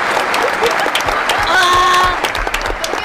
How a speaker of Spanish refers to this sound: Pues entra, que entre, un aplauso. Un aplauso.